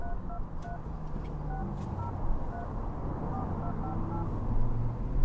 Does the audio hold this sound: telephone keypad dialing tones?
yes